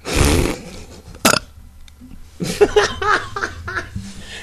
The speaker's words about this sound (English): You had to follow with the burp, huh? Yep. I just felt it bubbling up.